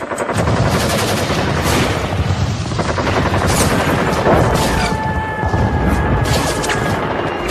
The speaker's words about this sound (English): on June 8, Israel attacked the USS Liberty, an unarmed NSA spy ship stationed in international waters off Sinai. They drop napalm and strafe its decks with rockets, cannon fire, and armor-piercing rounds before trying to sink it with torpedoes.